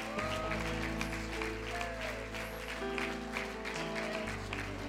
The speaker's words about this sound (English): Do you love the Lord tonight? Will you give him a hand clap of praise if you love him?